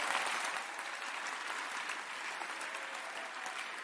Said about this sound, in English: Clap for Jesus.